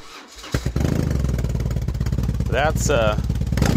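A BMW motorcycle engine cranks and fires up, settling into a deep, throbbing idle before being revved sharply twice, the pitch climbing and falling with each throttle blip.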